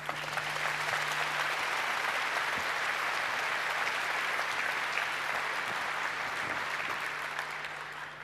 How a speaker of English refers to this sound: please give a warm round of applause for the ultimate Apollo guidance talk